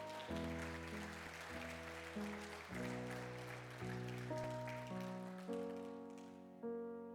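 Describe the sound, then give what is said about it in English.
Steady applause from a church audience, a dense patter of clapping, runs under sustained keyboard or organ chords that change every second or so. Nobody speaks. “The applause is nice.”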